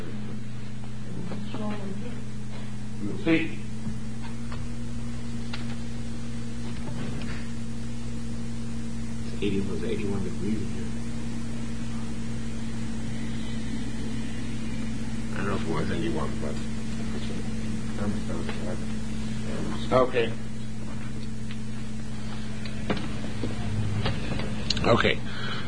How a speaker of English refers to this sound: I'm just going to turn on the air conditioner. We'll see.